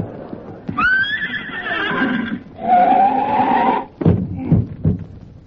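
A horse lets out a loud, quavering whinny, then a second rough, blaring neigh, followed by a few sharp clip-clopping hoof beats.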